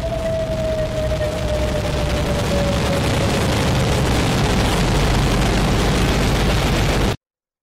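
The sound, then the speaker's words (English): A massive atomic bomb blast, the bomb dropped by an American airplane on Hiroshima on August 6, 1945, with more power than 20,000 tons of TNT, roars as a deep, continuous rumble for about seven seconds, with a faint, slowly falling tone in the first few seconds, then stops abruptly. “A short time ago, an American airplane dropped one bomb on Hiroshima and destroyed its usefulness to the enemy.”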